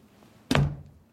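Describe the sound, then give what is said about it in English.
A daughter shuts a door once with a single solid thunk, fairly loud, its low resonance fading quickly. “Shahana rolls her eyes at her mother as she shuts the door.”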